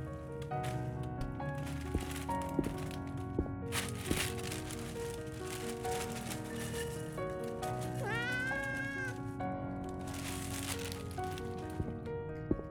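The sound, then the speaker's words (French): A cat named Moustique gives a clear, rising meow partway through while being given its kibble, with a few soft rattling clicks like dry kibble, all over a steady, humming tonal background; no one speaks. “Oui, Moustique, je te donne tes croquettes et j'y retourne.”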